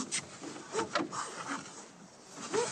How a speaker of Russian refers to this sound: Свинья, хрюкая, роет землю у дверцы трибуны.